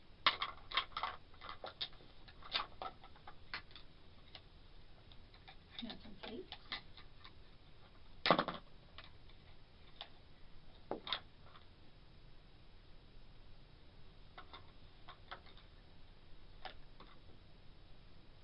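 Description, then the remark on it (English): A foamy toy clock clicks and ticks in uneven bursts, with sharper clicks now and then and quieter stretches between, all against a soft background hiss. “It's a foamy clock. You can make it turn.”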